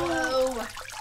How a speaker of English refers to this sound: that was the sound of him fishing an alligator snapping turtle out of a rubber tub on his back porch. Female alligator snapping turtle. She was huge.